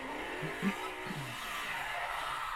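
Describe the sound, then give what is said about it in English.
A car skids and slides almost out of control, its tires squealing over a steady roar of engine and road noise that holds at an even, fairly loud level throughout, before it drives up the curb. “Car peeler was out of nowhere, sliding almost out of control.”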